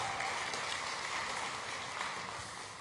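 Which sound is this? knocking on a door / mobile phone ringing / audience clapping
audience clapping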